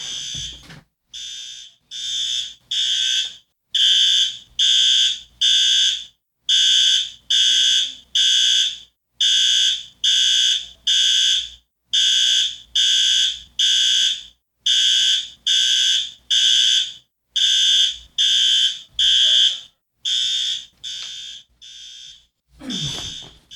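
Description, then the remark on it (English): A loud, shrill building fire alarm in Connecticut sounds in rapid repeating pulses, about two beeps per second, continuing steadily for the whole stretch with only brief pauses and no talking over it. “I believe our fire alarm is going off.”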